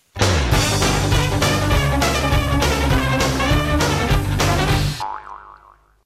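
A loud, busy jingle, the radio show's signature tune, plays with punchy rhythmic beats and a bright full-band melody for about five seconds, then ends in a wobbly, warbling synth tone that fades out.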